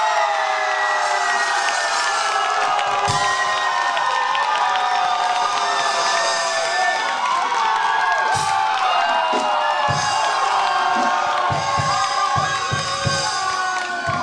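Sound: crowd cheering loudly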